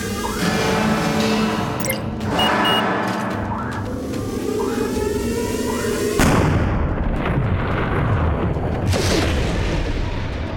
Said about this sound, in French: Il venait d'eux, le tir ? Oui, j'ai vu le canon rougir.